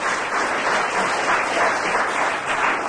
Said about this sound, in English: Oh, and applause.